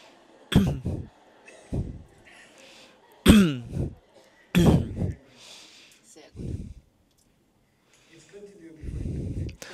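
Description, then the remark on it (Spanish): A person coughs and clears their throat several times before meditating, with short, fairly loud bursts separated by pauses, ending in a longer, rougher throat-clearing rasp. “El segundo paso es toser.”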